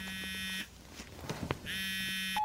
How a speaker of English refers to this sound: The phone's ringing. Is it mine? No, I think it's yours. It's mine.